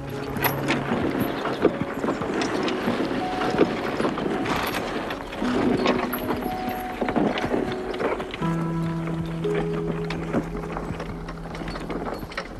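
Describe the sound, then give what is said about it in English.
Horses pull a plough steadily up a steep hill, hooves clopping unevenly amid rattling, creaking tack and the dragging plough, with sustained low tones drifting in toward the end. “urges the horses up the steep hill.”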